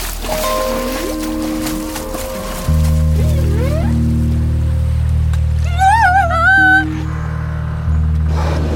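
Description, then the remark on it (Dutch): A deep, loud rumble of churning water surges in, with sliding, warbling whale-like calls rising above it, as a large whale unexpectedly breaks out of the waves with a lot of noise. “Maar dan komt er onverwachts een grote walvis met veel kabaal uit de golf tevoorschijn.”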